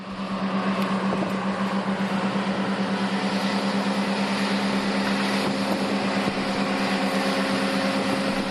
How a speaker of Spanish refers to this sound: Seguro que les suena este sonido, este motor a tractor.